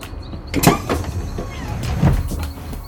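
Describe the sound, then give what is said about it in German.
The pneumatic rear door of a bus standing in a forest opens after a green button is pressed, with a sharp hiss and mechanical whir, followed by clunking movement, with a second burst of motion near the end. “Hier ist so ein grüner Knopf an der Hintertür. Ich drück mal drauf.”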